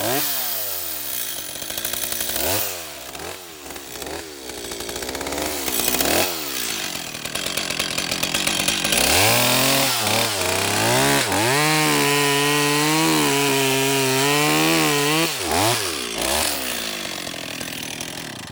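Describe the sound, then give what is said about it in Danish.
A chainsaw with a dull, ruined chain sputters through several short revs, then roars steadily and loudly, its engine pitch rising and dipping as it bites into wood, with no talking. “Jeg skal skifte kæde på den her sav. Den kan ikke skære noget.”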